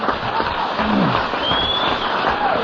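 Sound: audience clapping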